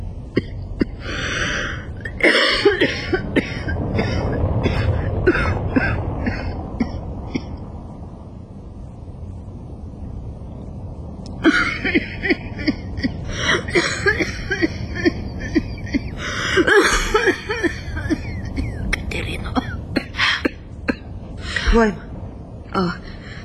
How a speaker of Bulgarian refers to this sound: Не те оставям да заспиш в тая моя кашлица.